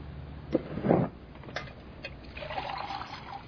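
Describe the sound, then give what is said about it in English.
Water is poured into a glass, starting with a couple of splashy gulps and settling into a steady, rising trickle as the glass fills. No one speaks. “Could you give her a glass of water so she can take that?”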